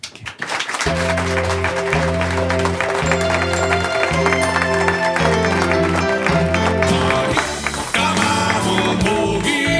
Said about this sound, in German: denn dann können wir sie nämlich richtig und live erleben und freuen uns jetzt und begrüßen sie mit einem ordentlichen Applaus, denn der funktioniert hier auf dem Stuttgarter Fernsehturm.